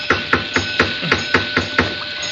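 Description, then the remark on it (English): A flashlight raps against a metal vault door in a steady series of about eight sharp, ringing knocks, evenly spaced and fairly loud, with no voices, done to attract someone's attention. “Perhaps if I rap with my flashlight on the door, it'll attract somebody's attention.”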